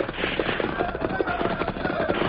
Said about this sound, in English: As the Lone Ranger and Tonto urged their horses at top speed toward the stalled railroad train, the sound of gunfire increased.